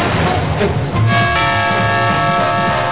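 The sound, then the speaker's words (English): A doorbell, shot with a gun rather than pushed, rings out, its bright sustained chime tones starting abruptly about a second in and lingering loudly over a busy, rumbling background. “he always shoots the doorbell rather than pushing.”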